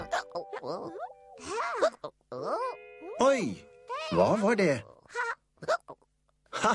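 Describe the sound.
Several short, sharp hiccups pop out with rising, squeaky vocal sweeps, mixed in with a voice talking; the last few hiccups come alone as quick, separated bursts.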